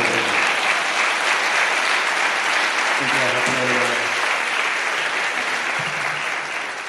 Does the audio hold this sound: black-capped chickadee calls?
no